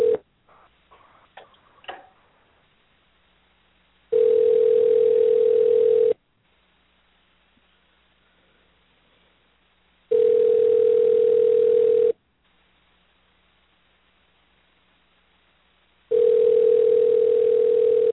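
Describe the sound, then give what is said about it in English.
A phone line rings out with three steady, buzzing ringback tones, each about two seconds long with four-second pauses between, preceded by a few faint clicks as the call connects, as the hosts of Leaving the Ring call a guest to patch him into the show. “So let's see if Devin answers the phone for us here.”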